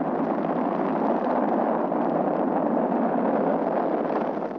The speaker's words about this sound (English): 5, 4, 3, 2, 1, 0. All engines. Liftoff. We have a liftoff. 32 minutes past the hour. Liftoff on Apollo 11.